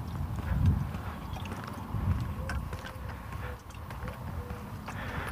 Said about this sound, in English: Dove cooing off in the distance.